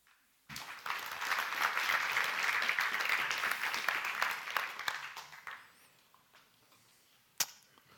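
A crowd breaks into sustained applause, many hands clapping densely for about five seconds before thinning out and fading, with one sharp clap or knock near the end.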